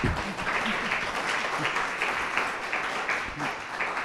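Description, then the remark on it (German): Steady crowd applause, many hands clapping in a dense, even wash of sound that holds at a fairly loud level throughout without speech over it. “Applaus auch für dich und schön, dass du gekommen bist.”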